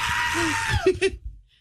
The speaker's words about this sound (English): That apparently is a goat. It's not a person screaming.